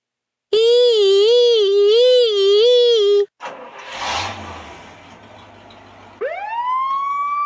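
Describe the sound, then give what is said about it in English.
A loud, warbling fire truck siren wails steadily for about three seconds as the truck moves off, then gives way to a rumbling engine and hiss before a rising siren tone winds up again near the end. “Look, the truck is moving.”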